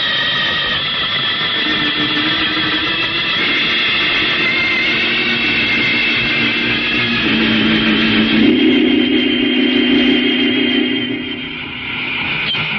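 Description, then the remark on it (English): A jet boat's engine roars loudly and continuously as it blasts off, a dense jet-like rumble with whining tones that shift in pitch midway and swell louder before easing slightly near the end. “You and I are blasting over there in our own jet boat to take a look.”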